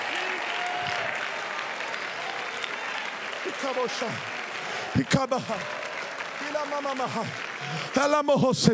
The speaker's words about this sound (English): You need to stand on your feet and clap your hands with everything in you. You need to stand on your feet and lift up your voice from the front to the back, from the bottom to the balcony. You need to clap your hands, lift up your voice.